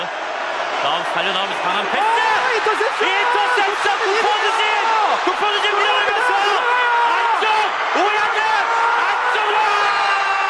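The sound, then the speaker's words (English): A crowd of voices shouts and yells continuously, overlapping whoops and calls forming a loud, steady roar with sharp rising and falling cries throughout. “It's a little hard with the yelling, to be honest.”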